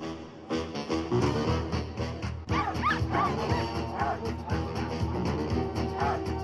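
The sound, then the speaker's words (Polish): A dog barks and yips repeatedly and loudly, over a dense, steady wash of background sound that continues for the whole stretch. “Dziś sprawdzamy, co oprócz zwykłego spacerowania można robić ze swoim psem.”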